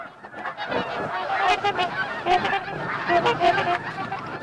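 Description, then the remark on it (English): A large flock of geese and tundra swans honks in a dense, overlapping chorus, smaller flocks of half a dozen or so tundra swans flanking the geese, many calls layered continuously and fairly loud, with no one speaking. “Smaller flocks of half a dozen or so tundra swans flank the geese, their own honking adding to the cacophony.”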